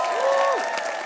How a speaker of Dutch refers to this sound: Geef onze discipelen en de Heer Jezus een groot applaus.